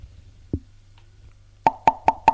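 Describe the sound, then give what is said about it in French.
Four quick, evenly spaced knocks on a door ring out sharply, preceded by a single dull thud and a low steady hum, with no voices. “On l'a frappé à la porte.”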